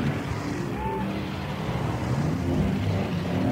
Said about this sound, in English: Let's build a city. We'll need a lot of people. And buildings. And traffic.